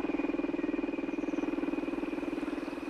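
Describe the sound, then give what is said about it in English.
A small outboard engine on a canoe in the South American jungle runs steadily, its droning hum pulsing in a quick, even rhythm for the whole stretch, with no voices over it. “We couldn't expect to see any animals, for the noise of our engine would have driven them far away.”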